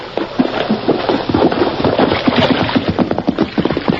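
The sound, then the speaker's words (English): A horse ridden by Tonto splashes downstream through a stream, its hooves churning water in a steady, uneven rhythm of loud sloshing bursts over a continuous watery rush, with no voices. “Hey, I hear a horse.”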